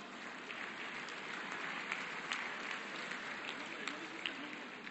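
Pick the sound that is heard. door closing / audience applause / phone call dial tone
audience applause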